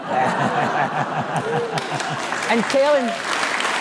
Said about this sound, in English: And telling the people that work here to stop applauding themselves.